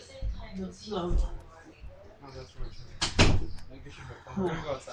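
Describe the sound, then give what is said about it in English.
A door shuts with a solid thud about midway through, a single sharp knock of sound amid muffled voices talking. “No, because I told you to close the door.”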